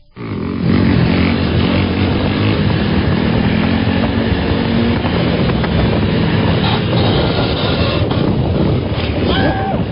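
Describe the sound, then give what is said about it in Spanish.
Loud, continuous roar of motorcycles doing stunts, engines droning steadily while a harsh grinding scrape runs underneath for the whole stretch as the lifted motorcycles' rear racks drag on the pavement, throwing sparks. “Lo que se escucha ahí es cuando las motocicletas, pues obviamente al ser levantadas, sus parrillas pegan contra el pavimento y echan algunas chispas también.”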